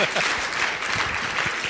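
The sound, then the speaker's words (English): An audience claps steadily, a dense wash of many hands at an even, fairly loud level for the whole moment. “Yes, you can applaud.”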